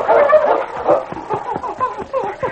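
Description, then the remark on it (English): A dog named King whines in a rapid series of high-pitched whimpers, some rising and falling, fairly loud, with an excited, restless rhythm and no talking, as it runs back and forth on the edge of a ravine in falling snow. “King whined and ran back and forth on the edge of the ravine.”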